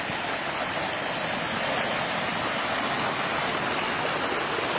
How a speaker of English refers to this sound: And the creek is really roaring because all of that snow is melting up there. But then the springs are going to wake up and start flowing also. This is just like a river. This is three creeks coming together.